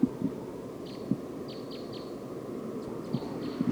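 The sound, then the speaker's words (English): A wild bird perched on the top of a tree chitters in a loose series of short, high-pitched chirps, some in quick pairs and triplets, fairly faint over a steady low rumble with occasional soft thumps. “It's recording the wild bird. It's perched up on the top of this tree. Chittering now.”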